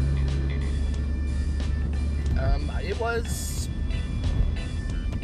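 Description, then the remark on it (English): Steady road rumble from inside a moving vehicle as it drives past a truck, the noise swelling as the truck goes by, with a brief hiss near the middle. A voice speaks a couple of words under the noise. “Driving past a truck here, you probably hear that.”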